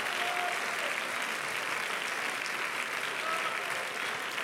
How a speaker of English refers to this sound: Can somebody clap their hands in this building?